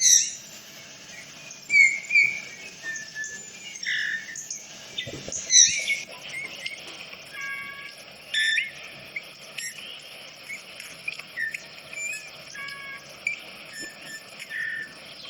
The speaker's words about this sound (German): er hat ein überraschend flötenden Gesang. Hören wir gleich mal. Mhm. Aber, soll ich direkt mal anmachen? Ja, das ist sehr finkenuntypisch. Also er flötet richtig.